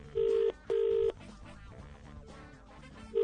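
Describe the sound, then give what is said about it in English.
Telephone keypad tones beep steadily as a phone number is dialed to make a call: two clear half-second presses and the start of a third, sounding over a busy background of music-like noise between the tones. “I'll just double check the number. Okay, one more phone call and then we'll end the show.”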